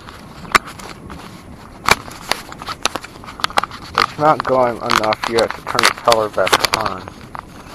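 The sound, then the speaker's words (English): Sharp clicks and rustling knocks of a camera being handled and strapped back onto a wrist during a storm with lightning, scattered irregularly throughout, with a person talking over the second half. “Sorry about the noise, I'm trying to put you back on my wrist.”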